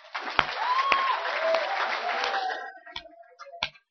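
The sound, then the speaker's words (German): A church audience breaks into dense, loud applause for Jesus for about two and a half seconds, with a few voices calling out over it, then it thins into scattered individual claps. “Klatscht mal für Jesus.”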